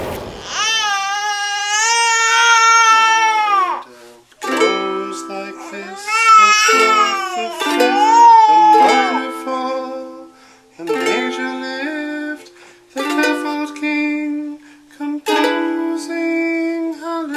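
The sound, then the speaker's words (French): A baby cries and wails in long, loud bursts while a father softly strums guitar chords to lull it to sleep, the baby's sobs gradually breaking into shorter whimpers between the plucked notes. “C'est un papa qui endort son bébé à la guitare.”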